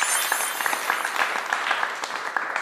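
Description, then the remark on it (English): A burst of applause sound effect added by the editor: many hands clapping in a dense, steady patter with crisp individual claps poking through, holding at an even, moderate loudness for a few seconds, with no voices. “No, I mean the editor's going to add a sound effect.”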